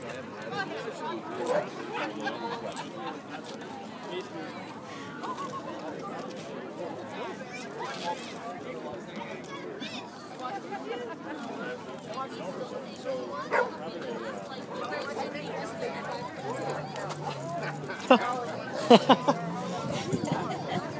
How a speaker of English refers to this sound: So what I'm going to do is not talk and just walk through this crowd, and you can kind of pick up the crowd noise as I walk through this group of dogs.